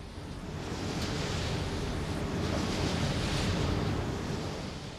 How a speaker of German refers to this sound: Was rauscht hier so mächtig und brausend und im Wortsinne berauschend? Es sind keine Wellen, es ist keine Brandung an irgendeiner Meeresküste. Es sind schlicht und ergreifend Windräder. Es sind Geräusche der modernen Zivilisation.